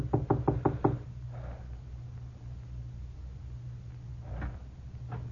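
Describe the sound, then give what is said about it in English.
A quick series of five sharp, loud knocks on the wooden door of a house, followed by quieter rustling and a faint thump over a low steady hum. “I made sure no one was following me and knocked on the door.”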